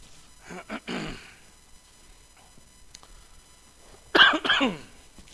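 A man with a cough, about to give an evening talk, coughs and clears his throat in two short bursts separated by a quiet pause, the second burst louder and harsher than the first. No talking.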